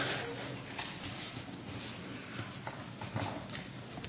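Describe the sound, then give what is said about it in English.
Horse hooves clip-clop at an uneven pace, a handful of distinct hoof strikes standing out over a steady, hissy background noise, moderately quiet. “Horses. We'll talk about horses.”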